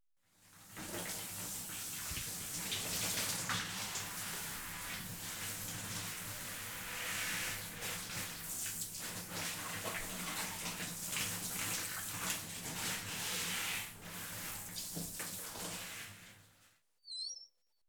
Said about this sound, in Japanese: 一度泡を落としますので、シャワーの方かけさせていただきます。失礼しますね。